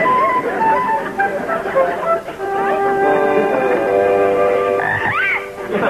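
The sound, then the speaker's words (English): A dense chorus of frogs, which are being sold, croaking steadily for the whole stretch, many overlapping throaty calls, loud, with a sharper rising croak near the end. “Young man, I'll give you 50 cents for one of those frogs.”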